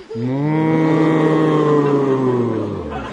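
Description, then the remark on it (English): A group of voices imitate a cow, sustaining one long, low moo together for about three seconds, loud and close, before trailing off. “Let's have it all moo together.”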